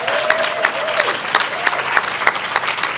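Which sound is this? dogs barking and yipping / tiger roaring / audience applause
audience applause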